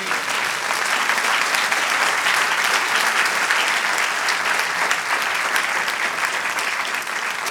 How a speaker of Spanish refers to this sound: Amén. Un aplauso al Señor.